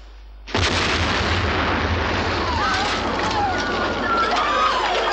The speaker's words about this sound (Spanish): La explosión provocó un agujero en la mesa. Caen trozos del techo sobre los asistentes. Todo está lleno de humo.